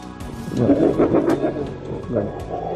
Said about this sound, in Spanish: En este momento Dakota tiene un trozo de carne que está comiéndose en el suelo y otros lobos la rodean intentando quitárselo.